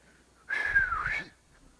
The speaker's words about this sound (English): Now, I wish I could whistle. If I could, I'd go like this.